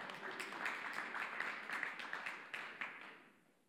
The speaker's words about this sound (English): You can clap for him for that.